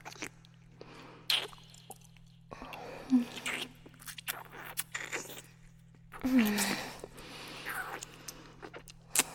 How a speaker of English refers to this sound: Feel the river of spit that flows down the side of your head. On the run of my tongue. The suction of my mouth feel.